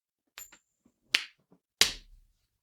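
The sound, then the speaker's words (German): A non-euro coin is flicked for heads or tails with a short bright metallic ring, then two sharp slapping thuds follow as it is caught and slapped down onto a hand. No one speaks. “Wir haben gesagt, wir werfen eine Münze.”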